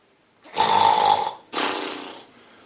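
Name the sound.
imitated snoring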